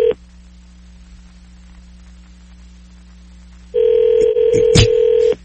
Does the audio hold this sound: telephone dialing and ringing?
yes